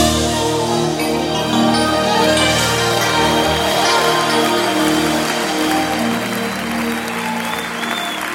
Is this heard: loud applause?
yes